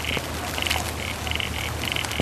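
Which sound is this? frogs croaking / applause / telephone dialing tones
frogs croaking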